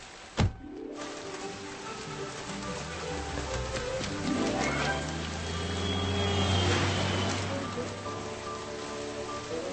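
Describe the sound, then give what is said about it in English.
Light rain patters steadily on a surface in a soft, continuous hiss, with one sharp knock near the start and a faint low hum underneath. “Look, it's just sprinkling.”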